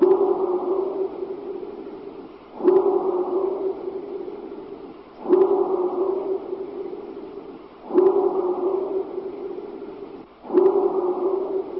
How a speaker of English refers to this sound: No, and it's not a bark either. It has kind of a bark sound to it because of the echo, but that was a power strike, which is also something ascribed to what Sasquatch do.